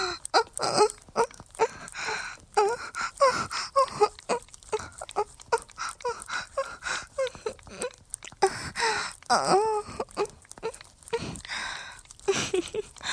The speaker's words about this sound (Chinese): 一听到姐姐的娇喘，你的喘息就开始变粗了，真是个小色鬼呢。